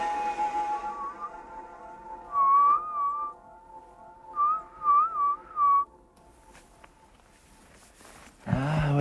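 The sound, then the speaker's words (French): A woman whistles two short, warbling phrases with a pause between them, calling to wolves while looking off behind the trees in a primeval forest, clear against a quiet outdoor background, followed by a brief rustling noise at the end. “Je ne comprenais pas pourquoi elle sifflait en regardant au loin derrière les arbres et puis je vois des silhouettes.”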